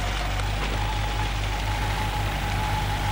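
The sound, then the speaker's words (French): A scooter engine idles steadily, a continuous low putter with a faint whine on top, holding the same even level throughout with no voices, in front of an old apartment building on rue Sully. “Il arrête son scooter.”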